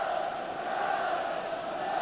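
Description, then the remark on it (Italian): A large stadium crowd of football fans, apparently Wales supporters, shouts "Wales" in unison during a match, a steady, sustained roar of massed voices that carries on without a break for the whole moment. “Sta gridando Wales, credo, no?”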